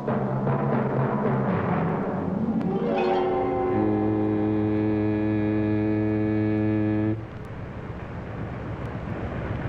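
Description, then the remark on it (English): A foghorn sounds one long, deep blast that swells in and holds steady for about four seconds, rich and droning, over a constant low background rumble, then cuts off abruptly. “What sound? That foghorn? It sounds like foggy weather.”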